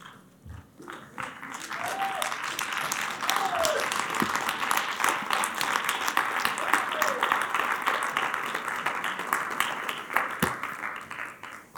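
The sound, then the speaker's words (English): A church audience on its feet claps hands to thank the Lord in sustained, dense applause lasting several seconds, with a few voices calling out faintly underneath. “Come on, stand on your feet and give the Lord a hand clap and thank Him.”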